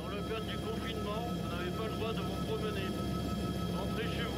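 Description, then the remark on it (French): A gendarmerie helicopter making repeated passes at low altitude, a few metres above a deserted town and its suburbs, gives a steady, loud rotor and engine drone that fills the background without fading, while a person talks over it throughout. “L'hélicoptère joue aussi un rôle psychologique. Le bruit de ses passages répétés à basse altitude et ses messages diffusés par haut-parleurs sont particulièrement dissuasifs auprès des promeneurs.”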